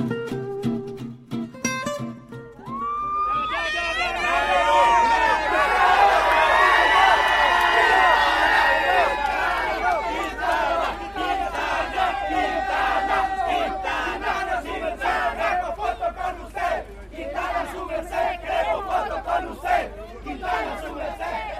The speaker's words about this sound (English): We were played back in there by a bit of singing that we heard around the Movistar bus from some Colombian fans who were waiting to see their man, Nairo Quintana, although there are a lot of Colombians in the race, and they greeted all of them